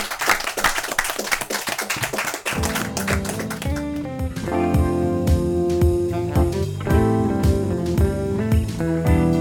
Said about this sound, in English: A round of applause for our two chefs.